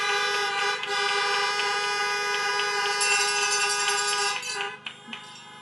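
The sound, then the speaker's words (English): Many car horns blare together in a round of honks from people in their vehicles at a nursing ceremony, celebrating students and their mentors: a sustained, overlapping chorus of honks, loud and continuous for several seconds before thinning out into a few scattered toots at the end. “Let's do a round of honks for Madison, Carly, and Abigail and their stellar mentors.”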